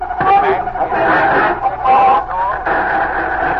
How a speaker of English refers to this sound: We're fortunate. That interference was caused by a government station coming on the air on the same wavelength. It's the method used to block out these broadcasts.